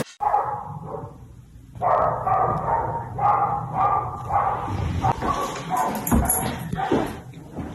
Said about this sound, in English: What do you do when your upstairs neighbor has a dog that will not stop barking? Duh, you post it on TikTok.